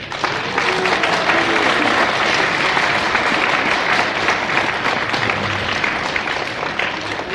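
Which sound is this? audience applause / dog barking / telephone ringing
audience applause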